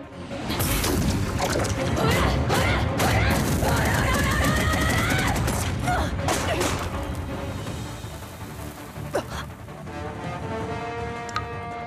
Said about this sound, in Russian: Готовься к концу, Джолин Куджо! Ты не сможешь увидеть больше трех выстрелов. Остальные продырявят твое тело.